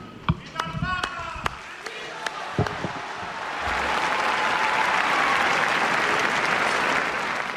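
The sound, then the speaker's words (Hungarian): A large crowd of pilgrims bursts into applause in the Paul VI Hall in the Vatican, thanking Pope Francis for his teaching. It starts with scattered claps and a few voices, then swells into a dense, sustained roar of clapping that holds steady to the end. “Kedves hallgatóink, a mai napon sem maradt el a tapsvihar, ott a Vatikánban, a 6.”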